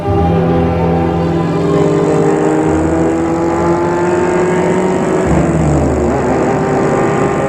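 car driving

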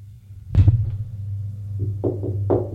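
knocking on a door

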